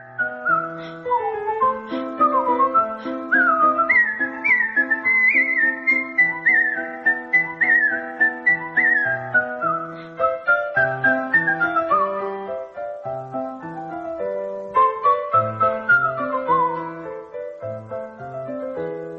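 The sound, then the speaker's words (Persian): A lively whistled rendition of Mozart's Turkish March, part of his Piano Sonata No. 11, with quick runs and ornamented phrases over a bouncing low accompaniment, played continuously and clearly with no talking. “حالا یه اثری که تازه از موزارت زدم ترکیش مارچ، قسمتی از سونات شماره 11 پیانوی موزارت که یکی از مشهورترین این آثار پیانوی موزارته.”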